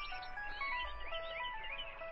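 A mobile phone rings with a call from its owner's mother, a bright, melodic electronic tune, its notes rising and falling in a continuous jingle that plays steadily for the whole moment with no voices over it.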